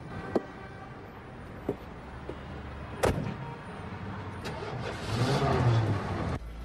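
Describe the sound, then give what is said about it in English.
A few sharp clunks, then a heavier car door slam, followed by an engine cranking and starting up, its rumble swelling into a rising rev before cutting off abruptly. “Joel Barish wakes up to the sound of a car door closing and an engine being started.”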